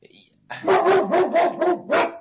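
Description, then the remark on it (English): A female dog named Cayenne barks and yowls in a quick run of about six loud, drawn-out, howl-like cries, after a brief faint noise at the start. “Even Cayenne's going, that's her way of just howling at the moon saying, hey, dummies, you're trying to make something out of nothing.”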